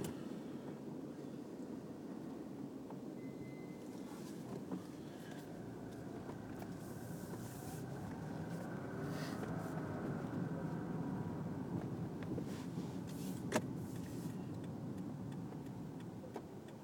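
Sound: car driving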